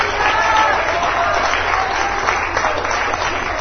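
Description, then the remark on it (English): An audience claps and cheers in praise to the Lord, a dense, steady wash of applause with voices calling out, loud throughout. “Give the Lord a great big clap and a praise for what He's done.”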